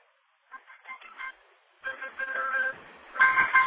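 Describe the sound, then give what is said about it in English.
A mobile phone left switched on rings during a class, its ringtone playing a bright electronic melody, a short burst first, then after a brief pause a longer, louder stretch of repeating tones with no one speaking. “You know, by mistake, I left my phone on.”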